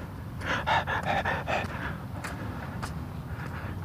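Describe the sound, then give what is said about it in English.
Heavy, rapid panting after walking uphill, a quick run of breathy gasps that gradually eases into quieter, slower breaths over a low background rumble. “Panting and heaving, but I made it.”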